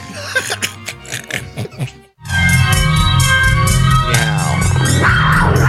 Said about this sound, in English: Yeah. Oh, that's scary kitty. I like the purr just before the roar.